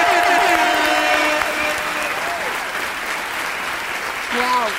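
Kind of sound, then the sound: crowd, standing ovation applause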